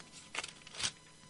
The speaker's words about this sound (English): Hope you can hear the pages turning, because I hope you're doing the same.